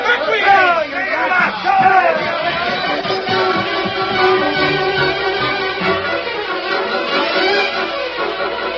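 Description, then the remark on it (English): In a Lone Ranger story, an angry crowd roused by Cobb Morgan into a lynch mob chatters in a cafe where a bartender was killed, many voices talking over one another in a loud, steady babble that never lets a single speaker stand out. “Cobb Morgan roused crowd into lynch mob in cafe where bartender was killed.”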